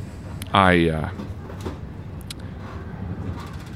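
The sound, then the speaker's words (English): A train rolls along with a steady low rumble, broken early by a loud, sliding metallic squeal of wheels before settling back into the continuous drone. “Please, really, if you could just anything, some story, something, keep my mind off this terrible train.”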